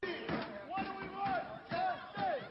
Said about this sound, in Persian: آنچه ما می‌خواهیم عدالت است. این فریاد کارکنان فرودگاه شهر بوستون آمریکاست.